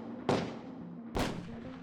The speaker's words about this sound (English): Next thing I know, I hear gunshots.